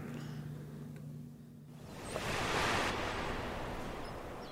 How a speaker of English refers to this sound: The prison is right there to my right, and I'm looking down at the water. A few seagulls in the water flying around. It's coming up. And it got like a little itty-bitty wave that'll come up. Watch this.